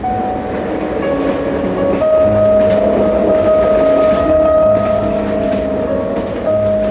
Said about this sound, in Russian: Всю дорогу ей казалось, что красная стрела едва тащится, тогда как поезд стремительно мчался сквозь ночные леса, обдавая их паром и оглашая протяжным предостерегающим криком.